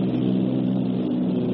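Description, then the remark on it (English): A loud, steady engine drone of a troop-carrying aircraft, throttled back for a parachute drop over the Netherlands, with a deep, even hum and a buzzing overtone, holding at a constant level without pause or voices. “We're throttled back now.”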